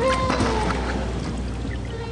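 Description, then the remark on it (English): Higher-pitched whale calls recorded in the 2000s: thin, sustained tonal whistles and short rising moans drifting over a dense, steady underwater rumble and hiss, the calls fairly faint against the constant background noise. “Again, here's what the whale calls sounded like in the 50s. And here's what it sounded like in the 2000s.”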